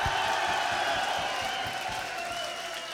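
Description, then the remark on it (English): A large concert crowd roars and claps continuously as a bass guitarist is introduced on stage, a dense wash of applause and cheering with scattered whistles and whoops, steady and loud throughout with no pauses. “Are you people in the back ain't clapping?”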